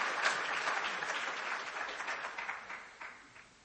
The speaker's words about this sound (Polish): Oklaski dla pana doktora